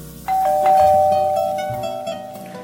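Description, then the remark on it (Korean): A doorbell rings with a bright, sustained chime that holds steady for nearly two seconds before fading, while soft background music plays underneath. “피곤한 눈을 비비며 책장을 넘기고 있는데 초인종이 울렸다.”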